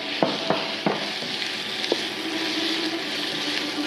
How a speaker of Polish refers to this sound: ja czuję po zapachu, wy tego nie czujecie, ale ja czuję, że tu jest już i imbir, i czosnek, i cebula, i to wszystko fajnie się przesmaża. Dodajemy mięso wegańskie, czyli nasz posiekany tempeh.